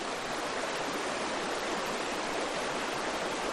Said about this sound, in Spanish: En la presa de San Andrés, muy cerca de Herrera de Pisuerga, se cruzan las aguas del canal con las del río Pisuerga.